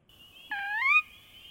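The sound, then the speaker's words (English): A sora, a bird that spends summer in Virginia and migrates away in the fall, gives a single clear, rising whistled call lasting about half a second, bright, over a faint steady high tone in an otherwise quiet setting. “Sora.”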